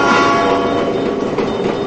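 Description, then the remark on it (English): A train rumbles steadily along the tracks at night, a loud, continuous roar with metallic ringing tones running through it, with no voices. “It's night as Michelle walks near train tracks.”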